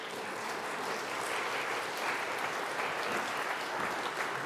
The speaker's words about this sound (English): And you can save your applause till the last one that announces themselves, and then we'll have a word of prayer in our pastoral prayer.